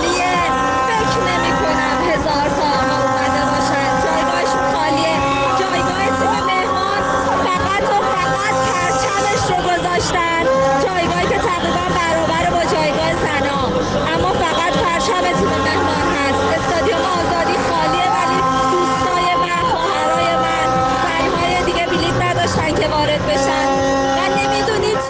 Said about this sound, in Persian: ما اومدیم چون نمیدونم بتونه صدای من بین این همه صدای جیغ و سوتون را بشنوین یا نه.